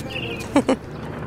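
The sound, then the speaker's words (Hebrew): Birds chirping outdoors, heard while walking to a cemetery: a faint, thin whistle drifts by, then two short, bright chirps follow in quick succession over a soft, steady background hum. “אנחנו ממשיכות לצעוד, מאזינות לציוץ הציפורים, נזהרות ממוקשים ובחורות שלא ללטף את החתולים.”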